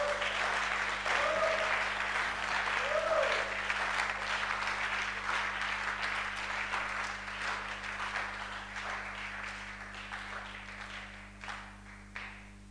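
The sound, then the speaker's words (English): A church audience claps their hands during a sermon at the preacher's request, in a dense, sustained round of applause that stays loud for several seconds, then gradually thins and fades toward the end, with a low steady hum underneath. “If you are not sleeping, can you clap your hands?”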